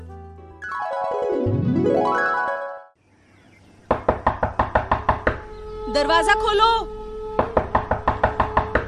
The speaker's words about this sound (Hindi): दरवाजा खोलो। अरे आ रहे हैं भाई, कौन है, क्यों शोर मचा रहे हो? अरे मैं हूँ इस गांव की आशा। दरवाजा तोड़ने का इरादा था क्या?